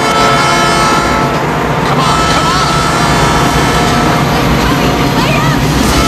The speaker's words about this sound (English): Another train pulls in.